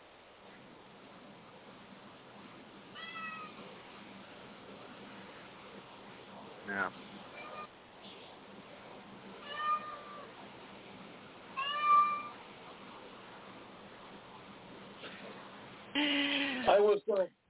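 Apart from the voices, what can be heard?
cat meowing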